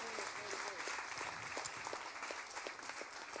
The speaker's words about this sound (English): Let's give them both a round of applause as they go back to the seats.